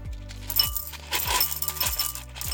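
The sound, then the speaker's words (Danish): Small hard Smarties candies clatter into a bowl in a few rattling bursts, a steady hard patter of tiny pieces hitting and tumbling against each other, with no voices. “Dem hælder jeg ned i skålen.”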